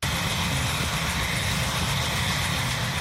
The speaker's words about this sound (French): Divers responsables gouvernementaux américains ont assisté ce mois-ci à un vol de démonstration de l'hélicoptère téléguidé K-Max.